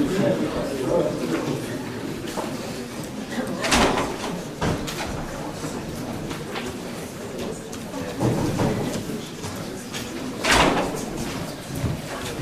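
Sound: door falling shut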